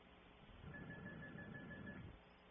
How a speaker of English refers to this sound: I hear a phone ringing, man.